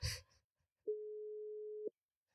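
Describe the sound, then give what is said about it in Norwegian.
A single steady telephone ringback tone, heard while calling a man's number, sounds clearly for about a second after a short burst of handling noise, then stops into silence. “Sånn, nå ringer jeg her hvert øyeblikk.”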